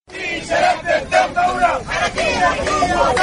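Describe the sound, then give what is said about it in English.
Hundreds of protesters with disabilities, in wheelchairs, on motorbikes and carrying sticks, shouting and chanting together in the streets of Khartoum, Sudan, against the military takeover: a loud, dense, continuous roar of overlapping cries with rhythmic swells. “Hundreds of people with disabilities sitting in wheelchairs, on motorbikes, and others carrying wide sticks are protesting on the streets of Khartoum and other places around the country to reject any involvement of the military in Sudan's”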